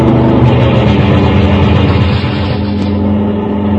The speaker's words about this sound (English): another car rounds the bend and comes down the highway fast.